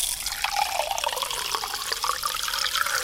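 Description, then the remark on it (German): Water runs steadily into a glass, a continuous bright splashing pour with a slight rising tone as the vessel fills, with no talking. The glass is being filled until a seed hung over it on toothpicks sits just in the water. “Und jetzt muss man das Glas so hoch mit Wasser befüllen, das machen wir jetzt auch, dass das gerade so im Wasser ist.”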